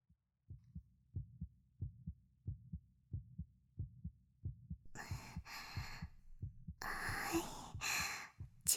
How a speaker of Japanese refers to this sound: 私もすっごくドキドキしてます。これからどうなっちゃうのかな。ほら、私の心臓のドキドキ感じてください。